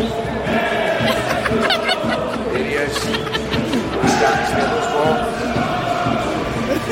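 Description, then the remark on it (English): A large crowd sings together in a steady, noisy wash of voices, with scattered shouts and laughter, while a man speaks a few words over the din. “You can hear the crowds, they're singing,”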